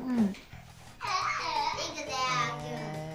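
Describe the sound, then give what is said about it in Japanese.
Young children babble and call out in high, excited voices, their chatter continuous and overlapping as they run around inside a studio. “あのスタジオの中で子供たちがね走り回ってるから、このスタジオの中をそんな距離ないですよ。”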